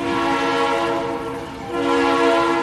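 A locomotive horn blares loudly and steadily in a rich, chord-like tone, easing briefly midway before swelling back up, prominent with no voices.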